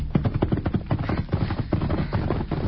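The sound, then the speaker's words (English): Horse hooves clip-clop in a quick, steady rhythm of sharp knocks, moderately loud, with no voices over them. “Oh, Silver, steady. Easy, man. Great work, masked man. Stopping that horse.”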